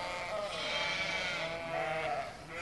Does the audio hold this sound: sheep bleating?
yes